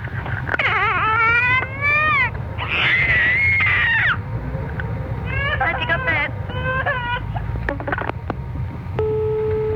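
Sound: toddler screaming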